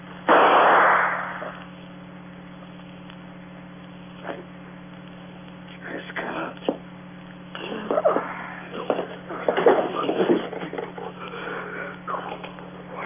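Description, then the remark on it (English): A single loud, muffled gunshot as a man is shot bursts out at the start, then a hum-filled quiet before faint, broken voices and rustling stir in the background. “I didn't mean to shoot him.”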